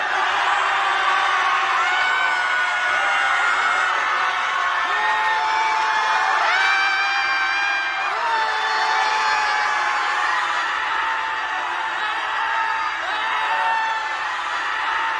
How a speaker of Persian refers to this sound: حالا جیغ بزنیم.